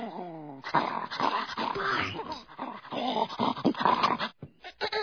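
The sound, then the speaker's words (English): A young boy trapped in a well growls and snarls like a wolf, loud, in rough continuous bursts with a whiny rising yelp at the start and choppy snarls near the end. “The child is reverting to a feral or wolf-like state.”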